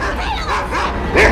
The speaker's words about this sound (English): He opens a door and is faced by a barking Alsatian.